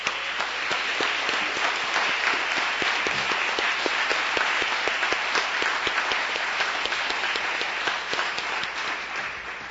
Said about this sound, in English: A big round of applause for Todd.